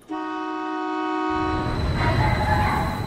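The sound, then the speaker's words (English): A light rail train running through the city of Addis Ababa, Ethiopia's capital, sounds a steady, sustained horn tone for about a second and a half, then its rumbling, rattling run takes over, loud and continuous to the end. “A light rail running through the city.”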